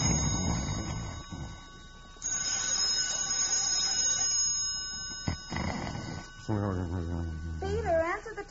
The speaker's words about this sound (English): Phone, it's right beside you. The phone?